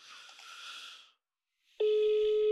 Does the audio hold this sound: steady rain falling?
no